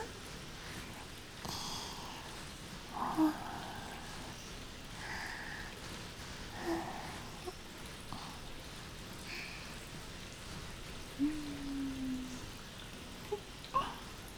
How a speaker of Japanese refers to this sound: はーい、シャンプーはこれでバッチリです。とてもきれいきれいになりました。